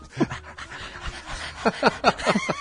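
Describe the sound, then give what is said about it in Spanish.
A dog pants rapidly, then lets out a quick run of short, sharp barks in a steady rhythm, with no one speaking. “¿Por qué ladra la novia de Peñarito?”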